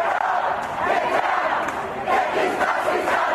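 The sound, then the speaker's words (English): A large crowd of counter-protesters in the nation's capital jeers and shouts at a small group of white supremacists at the Unite the Right rally, who arrive under heavy police protection. The sound is a dense wall of overlapping angry voices, with bursts of yelling rising above the roar, loud throughout. “Crowds jeered as a small group of white supremacists arrived in the nation's capital under heavy police protection”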